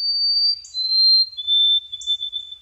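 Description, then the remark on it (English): A white-throated sparrow sings its clear, pure whistled song: long sustained high notes that step slightly downward, with a few faint higher flourishes, alone and without voices. “Poet Laureate Ada Limón, I tear up a little every time I hear the song of a white-throated sparrow, thinking about Ada's poem, Sparrow, What Did You Say?”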